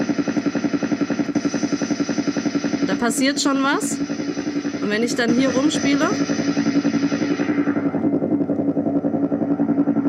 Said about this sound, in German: Einfach um mal zu zeigen, wie man so Geräusche mit so einem kleinen Sampler auch verändern kann. Also so klingt der Helikopter normal und dann kann ich Filter reindrehen.